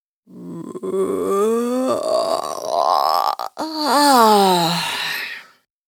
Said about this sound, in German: Erst dann richtet er sich auf und gähnt erst einmal herzhaft.